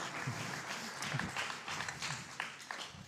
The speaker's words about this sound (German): Danke. Applaus für deine Bananenexpertise.